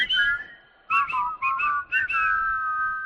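people whistling a tune

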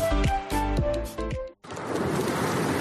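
sea waves

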